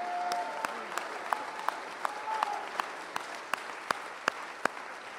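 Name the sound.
audience clapping and shouting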